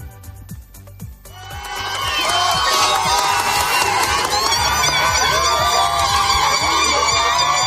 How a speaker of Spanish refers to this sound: Y esto es lo que pasaba, estos aplausos de cientos de personas que se habían congregado en torno a las fronteras esta medianoche cuando se abrían de nuevo.